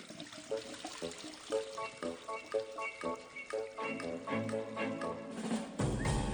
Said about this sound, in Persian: بابا یه ساعت شیر آب بازه. بابا مگه نمیبینه میخوام مسواک بزنم دیگه ول کن افتادیم ها. بابا شیر آب نمیبندی؟